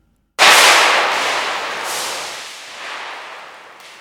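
A thick sheet of 200 gsm Fabriano Academia paper snaps with a sharp, loud crack, then a dense papery rustle and crackle carries on, slowly fading over a few seconds. No voices.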